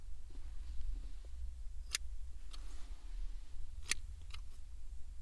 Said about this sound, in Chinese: 放心好了，主人绝对不会手滑的。不许动，主人现在就开始剪。